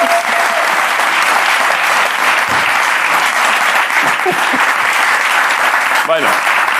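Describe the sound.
Steady, dense applause from a crowd fills the whole stretch, a loud continuous wash of clapping with a few brief voices and whoops poking through.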